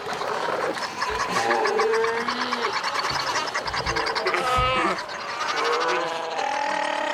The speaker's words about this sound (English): However, because I grew up here, I've seen the amount get smaller and smaller and smaller, and the sound of the fur seals bellowing off in the distance has become quieter and quieter.